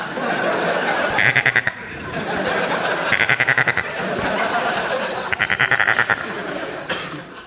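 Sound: goat bleating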